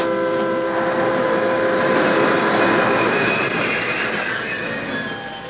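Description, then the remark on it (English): A train brakes hard for a rock slide on the track, its wheels letting out a loud, sustained metallic squeal over a rumbling, hissing roar that holds steady for several seconds before easing slightly at the end. “Dave, it's a rock slide. Use your brakes.”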